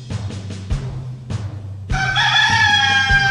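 A rooster lets out one loud, drawn-out crow, its harmonic call starting about halfway through after a stretch of low hum and soft knocking sounds.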